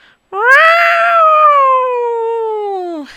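A single long, drawn-out cat yowl, loud and wailing, holding a steady pitch for about three seconds before sliding downward and cutting off. No other sounds or voices accompany it.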